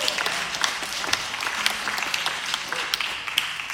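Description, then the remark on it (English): An audience gives a round of applause for Jesus, dense overlapping claps forming a bright, crackling wash with sharper individual claps poking through, sustained at an even level throughout. “Yes, can we give a round of applause for Jesus?”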